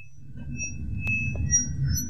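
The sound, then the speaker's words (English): Sound art by sound artist Bill Thompson, recorded inside Greek pots on display at the Marshall Museum in Aberdeen: thin, steady ringing tones hover at several pitches over a low, rumbling hum, broken by one sharp click midway, with no voices. “Not a recognised sacred sound, but the work of sound artist Bill Thompson, produced inside Greek pots on display at the Marshall Museum in Aberdeen.”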